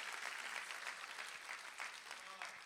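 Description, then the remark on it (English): An audience claps steadily to thank God, a dense, loud wash of overlapping hand claps with no pauses, crackling evenly across the whole stretch as a crowd applauds together. “Come on, clap and thank God today.”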